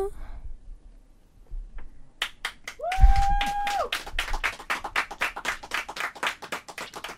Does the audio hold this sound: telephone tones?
no